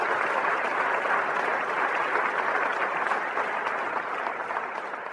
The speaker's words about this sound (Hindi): हम जानते हैं ट्रैफिक मैनेजमेंट वाले कड़ी धूप में कितनी मेहनत करते हैं। आप सभी बधाई और तालियों के हकदार हैं।